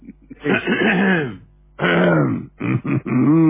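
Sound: throat clearing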